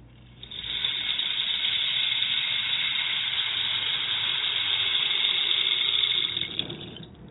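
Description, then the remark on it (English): A rain stick, an instrument from equatorial cultures with water poured into it, pours out a steady, even rushing hiss for about six seconds, swelling in quickly and tapering off at the end, with no voices over it. “Like the rain stick. Shall we listen to that again?”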